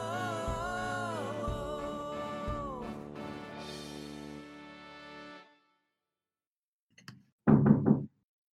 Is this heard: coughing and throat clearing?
no